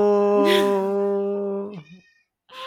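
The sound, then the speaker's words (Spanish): A cat outside a door meows loudly while scratching at the door, wanting to come in: one long drawn-out yowl with a wavering pitch that trails off, then a brief silence before another meow begins. “Está ahí afuera la buena, rajuñándome la puerta. Quiere entrar.”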